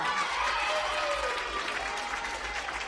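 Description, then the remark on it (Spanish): An audience at a contest final claps steadily for about three seconds for a student from the Sagrado Corazón Agustinos Recoletos school, a dense wash of many hands at a constant, fairly loud level, with a faint murmur of voices mixed in. “Agustino Recoletos, ¡un fuerte aplauso!”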